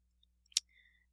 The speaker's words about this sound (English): My book is, like, squeaking really loud.